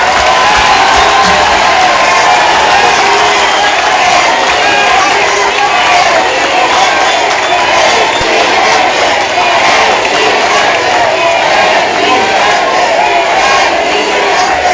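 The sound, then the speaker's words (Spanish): A large crowd in Sogolica cheers and applauds continuously as Andrés Manuel López Obrador, national leader of the movement, is introduced; a dense, loud roar of clapping and shouting voices with whoops that holds steady throughout without pause. “Y con ustedes, el dirigente nacional de este movimiento, recibamos nuevamente un fuerte aplauso, el licenciado Andrés Manuel López Obrador.”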